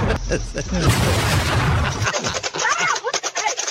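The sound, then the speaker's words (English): A loud paint bomb explosion bursts out with a broad, roaring blast lasting about a second, then breaks into scattered crackles and sharp ticking bits as debris settles. “These explosions are big enough to kill a person.”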